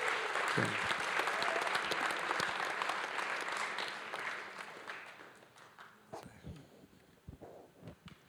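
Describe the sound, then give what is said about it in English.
A church audience breaks into sustained applause to the Lord for people's salvation, a dense wash of many hands clapping that stays loud for several seconds, then thins out and fades to a few scattered claps. “Let's give the Lord a clap for their salvation.”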